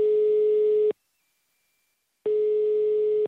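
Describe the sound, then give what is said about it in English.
Two steady electronic ring tones heard through a phone line, each lasting about a second with a short silent pause between, as a call to a home phone number rings on the other end. No one speaks. “I called their home phone number.”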